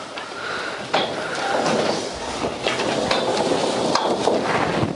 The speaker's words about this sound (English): And so, as y'all shift your chairs, while I'm talking, shift your chairs this direction.